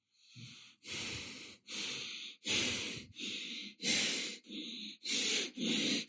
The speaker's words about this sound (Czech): Postupně zrychlujeme dýchání. A zrychlujeme pořád dál.